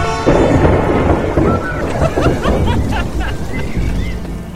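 A loud, steady thunderstorm: deep rolling thunder rumbles over a continuous wash of rain, with a few faint high chirps scattered through the downpour.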